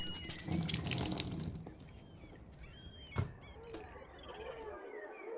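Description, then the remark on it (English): Water gushes from a tap into a sink, loud for a second or so, then softens to a steadier trickle, with a sharp knock and a faint clink partway through, as someone runs the faucet to clean a skirt. “This escaped Shiro's attention as he was busy running water from the faucet, trying to clean the skirt.”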